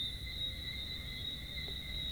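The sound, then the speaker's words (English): Crickets chirp outdoors in a green rural landscape of Barbados, a drive from Bridgetown, amid vegetation, palm trees and fruit, in a steady, unbroken high-pitched drone, fairly soft, over a low background rumble, with no voices. “There's vegetation everywhere, palm trees, fruit, rich soil, the sounds of birds and crickets.”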